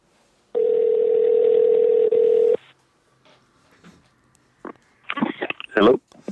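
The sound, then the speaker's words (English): A steady, buzzing telephone ringing tone sounds for about two seconds with a tiny break. After a short pause, a person starts talking on the line. “Now it's ringing.”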